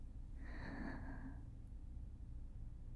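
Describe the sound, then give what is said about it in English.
A single deep breath drawn in through the nose or mouth during a guided slow breathing exercise, breathy with a faint whistling edge, lasting about a second before fading into a low steady background hum. “Slow breathing together should keep you relaxed and safe.”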